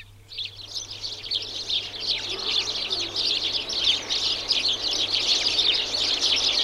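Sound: house sparrows chirping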